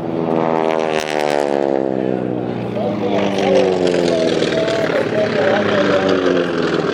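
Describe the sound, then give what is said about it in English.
Vintage 1940s propeller warplanes roar past very low over a crowd, a loud, steady droning of engines whose layered whine slides gradually downward in pitch as they pass, filling the whole seven seconds. “They're incredibly low. Very low.”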